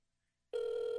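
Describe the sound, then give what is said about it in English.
A telephone ring tone of an outgoing call that goes unanswered cuts in abruptly after half a second of silence, a loud, steady mid-pitched electronic buzz that holds unchanged until the end, with no voices. “Still ringing.”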